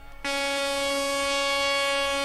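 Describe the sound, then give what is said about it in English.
A loud, sustained horn blast kicks in abruptly after a brief moment and holds a steady, brassy tone for about two seconds, with no talking. “Sound the horn!”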